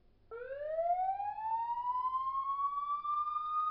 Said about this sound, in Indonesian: Vina mendengar sayup-sayup suara ambulans.